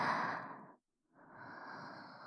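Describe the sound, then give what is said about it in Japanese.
Heavy, breathy exhalations of an excited girl: a long rushing breath out, a brief pause, then another drawn-out breath, airy and loud with no speech. “女の子の荒い呼吸。これは、興奮している合図です。”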